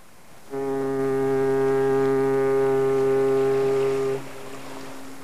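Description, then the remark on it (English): A single deep foghorn blast, a loud, steady, low droning tone held for nearly four seconds before cutting off and leaving a faint lingering hum; no one speaks. “And I remember reading it in the middle of the night and the smell of the Long Island Sound and the foghorns, and I loved it.”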